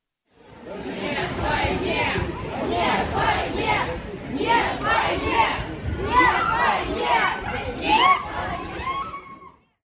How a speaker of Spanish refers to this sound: En las calles de Moscú, manifestantes gritaban: "No a la guerra".